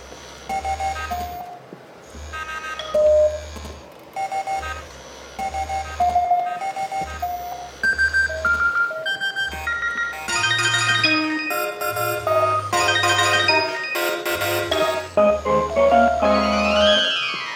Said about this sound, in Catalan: és força divertit perquè és una peça composta amb els aquests sons, amb els politons, de 30 mòbils i 4 buscapersones de tot dels últims 30 anys. Eh? I era per celebrar l'aniversari dels 30 anys del mòbil.